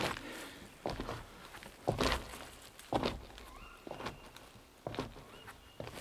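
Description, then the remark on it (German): About six slow, evenly spaced footsteps as two people walk together hand in hand through a passage at a cautious pace, each step a soft thud with a scuffing edge, with no one talking. “Wie viele Schritte sind es denn?”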